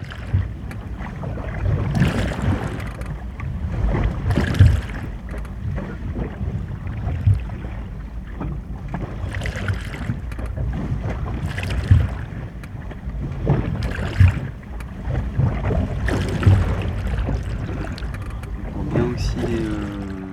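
Water rushes steadily along a sailboat's hull at night, heard from below deck as a deep, muffled roar that surges and swells in waves, with occasional dull knocks against the boat.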